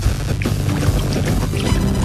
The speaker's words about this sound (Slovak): a teraz som už naozaj úplne pri brehu Mary, neviem, či budete počuť aj to vlnenie, je veľmi, veľmi jemnučké, nefúka momentálne.